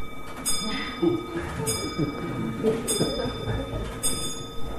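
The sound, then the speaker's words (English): A clock chimes in a slow, steady series of bright metallic strikes, about one every second, with ringing tones that hang between them over a low murmur of voices. “I think the clock is representing all of your bellies to tell me that you're hungry.”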